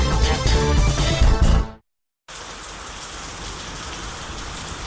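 Music plays for under two seconds, cuts to a brief silence, then steady, dense rainfall begins: a continuous hiss of drops that holds at an even level to the end.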